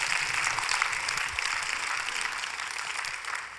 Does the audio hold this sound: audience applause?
yes